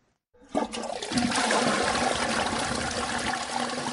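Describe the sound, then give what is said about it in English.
An enclosed toilet flushes, starting abruptly after a brief silence with a loud rushing surge of water that continues steadily, echoing slightly. No one speaks. “A flushing enclosed toilet.”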